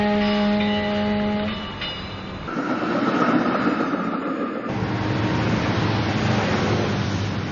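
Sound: railway train passing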